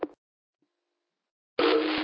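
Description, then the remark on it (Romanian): A telephone starts ringing with a loud, steady, buzzy electronic tone after a stretch of silence, following a short click at the very start. No one speaks. “Opa, sună telefonul.”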